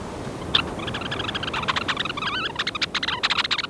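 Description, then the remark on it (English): Red-necked phalaropes, a sandpiper species, calling in a busy chorus of short, high, buzzy chirps and twitters, overlapping in quick irregular bursts over a steady low background hiss, with no one speaking. “Red-necked phalaropes are sandpipers that make their living from the sea.”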